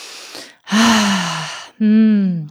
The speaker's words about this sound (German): Oh, ich muss erstmal tief atmen.